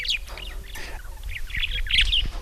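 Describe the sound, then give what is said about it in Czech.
A pet budgerigar named Kuba Andulák chirps and twitters in quick high bursts, with a few soft tapping knocks as it taps against its cage while watching over the cooking. No one speaks. “Ten zvuk, který jste slyšeli u kořice, nepatřil z kořici, ale Kubovi Andulákovi, který nám tady klepe do klece.”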